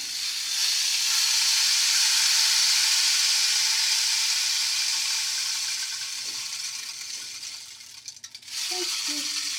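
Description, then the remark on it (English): A rain stick, turned over by a teacher, pours out a steady hiss of tiny beads trickling through the tube, fading slightly toward the end before a brief shuffle and a fresh burst of rattling. “hands the rain stick to his teacher. She turns it over.”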